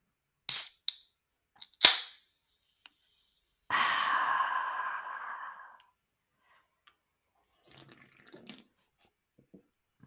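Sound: beer bottle being opened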